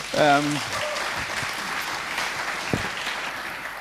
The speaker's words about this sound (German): Ich finde, ihr habt euch jetzt auch einen Applaus verdient.